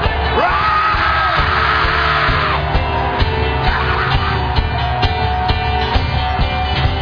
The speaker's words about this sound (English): I want you to roar right now. Roar. Roar. Roar.